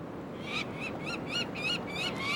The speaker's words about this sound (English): Just because the baby birds are screaming doesn't mean we're hurting them. All it means is that they're very afraid. We don't hurt the birds at all. We're very, very careful with these birds.